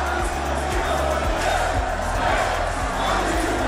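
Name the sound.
football fans chanting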